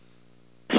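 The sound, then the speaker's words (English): A low electrical hum runs steadily, then a sudden loud, breathy sneeze bursts in at the very end, sharp and cut off abruptly. “Bless you, as usual.”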